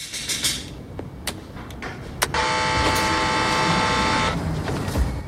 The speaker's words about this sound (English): Simon presses a button on a jukebox in a bar.